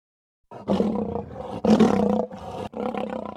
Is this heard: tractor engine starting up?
no